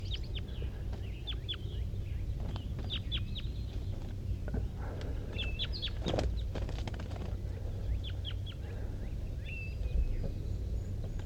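wild birds calling

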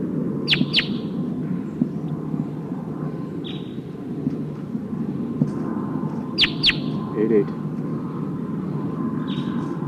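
wild bird calling

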